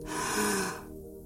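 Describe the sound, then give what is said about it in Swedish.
A single deep, drawn-out inhale through the nose, breathy, swelling for under a second before tapering into quiet. No talking. “Andas in.”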